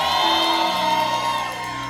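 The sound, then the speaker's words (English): An audience cheers and screams together in rejoicing, a dense wall of overlapping high-pitched voices and whoops that stays loud throughout the two seconds, easing only slightly toward the end. “That's good. But that's not agalio. Agalio is not even to scream.”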